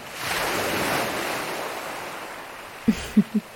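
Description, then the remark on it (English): Waves wash steadily onto a desolate rocky beach in a continuous hissing roar, with a breezy edge. Three short, soft thuds land close together near the end. “I do love this beach. So desolate, but it has such a rugged beauty.”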